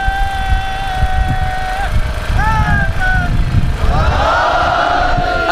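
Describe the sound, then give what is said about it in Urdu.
Loud chanting outdoors in an open place: a crowd shouts religious slogans at full voice to renew its pledge to the Imam of its time, a long, drawn-out sustained call and a rising shout, then many voices join in a loud, overlapping slogan chant over a constant open-air crowd rumble. “مجھے نہیں سنائیے گا یہ نعرے, آپ مجھے سنانے کی ظاہرے نہیں لگائیں گے, یہ نعرے آپ لگائیے گا اپنے وقت کے امام کے حضور تجدید عہد کے لیے.”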